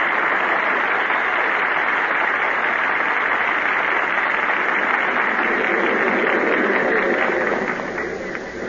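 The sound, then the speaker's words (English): A dense, steady roar of a large crowd at a racetrack cheering and clapping, loud and continuous throughout, with no distinct voices standing out before it tapers slightly at the end. “There's sure a big crowd here at the track.”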